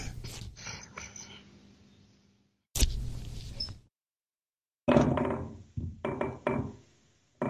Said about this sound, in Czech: Teď se tam skároval, tam padají flašky po zemi.